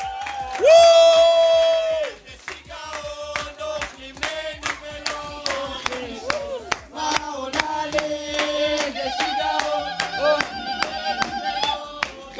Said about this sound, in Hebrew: בואו וניתן הרבה הרבה כבוד והרבה מחיאות כפיים.